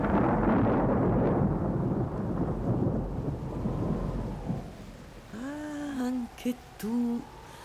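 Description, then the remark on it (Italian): Heavy rain hisses under a long, rolling rumble of thunder that swells and slowly fades during a tropical thunderstorm battering a glass-and-concrete hotel on an island; near the end, a voice begins speaking over the softer storm. “Ma un temporale ai tropici ha la sua bellezza romantica.”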